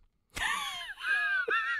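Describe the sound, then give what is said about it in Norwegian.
Cat-like wailing in three drawn-out, strained yowls with wavering, sliding pitch. The sound is loud and harmonically rich, with short breaks between cries and no talking. “Akkurat så hel av en katt.”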